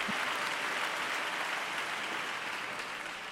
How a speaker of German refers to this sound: Erst als eine Sängerin ihm dann gezeigt hat, dass er sich umdrehen sollte, da merkte er, dass alle ganz begeistert klatschten und verbeugte sich viele, viele Male.